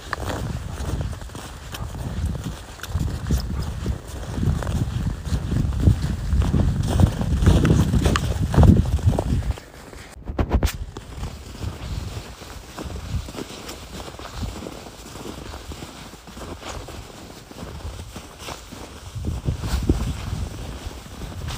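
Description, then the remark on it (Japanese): Steady footsteps crunch and squeak over cold, packed snow at minus 6 degrees Celsius on an 8:30 morning walk on New Year's Day, 1 January 2024, in an even walking rhythm, loudest in the first half, with a brief lull before the crunching resumes more softly under light wind. “今朝はマイナス6度まで下がったので雪の音が違うと思います。”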